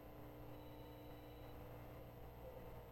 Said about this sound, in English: Okay, let's stay focused. Somebody's cell phone ringing. Okay.